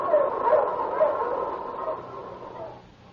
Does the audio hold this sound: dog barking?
yes